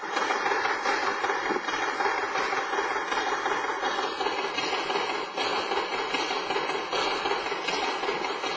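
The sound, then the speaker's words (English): A dense, rapid wooden clatter of rigid hammer-shaped sticks striking a hand-cranked instrument and hitting against its side, cranked manually by boys. A continuous rattling stream of knocks keeps a steady loudness throughout, with no voices. “the rigid sticks are in the shape of a hammer, and they're hitting also against the side of the instrument.”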